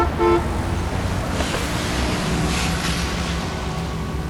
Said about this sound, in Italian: Un'ondata di rumori lo travolge. Macchine che strombazzano, motociclette che rombano, persone che parlano a voce alta, lavori in corso con trapani assordanti.